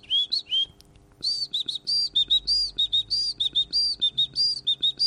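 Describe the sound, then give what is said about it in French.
A person whistles an imitation of a great tit's song: bright, repeated two-note phrases in a quick, steady rhythm, clear, with faint low background hum and no talking. “Tu as reconnu la mésange? Tout à fait. Voilà, la mésange charbonnière qui fait des...”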